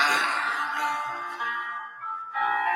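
A slow 1981 pop ballad, a number one on the Hot 100 for nine weeks, plays at a steady, moderate volume, with smooth sustained melodic tones and lush harmonies carrying through without any talking.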